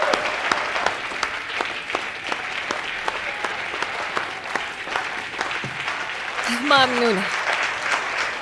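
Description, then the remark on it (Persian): A crowd applauds steadily, a dense rattle of many hands clapping throughout, with a brief voice rising over the clapping near the end, as the next attorney general of the state of Louisiana is introduced. “لطفا تشویقشون کنید.”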